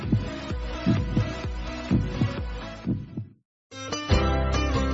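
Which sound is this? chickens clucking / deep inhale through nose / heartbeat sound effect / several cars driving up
heartbeat sound effect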